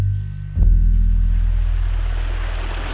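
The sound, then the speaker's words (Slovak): A wild river, which the elves call Mithaitel, rushes loudly and continuously, its broad churning roar swelling in abruptly after a low hum and carrying a deep rumble underneath, with no voices. “Do takej divej rieky by som nechcel spadnúť.”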